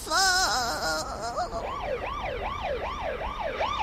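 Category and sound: vehicle, ambulance siren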